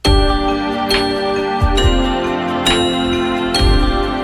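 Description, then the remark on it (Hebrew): A sustained synthesizer pad with a bright bell-like tone, played as short repeated chords roughly once a second, each strike ringing into a steady shimmering wash; loud, no voices. “בפד הזה יש גם איזה פעמון, אז זה עוד איכשהו מתקבל, אבל הנגינה הזאת היא לא נכונה לפד.”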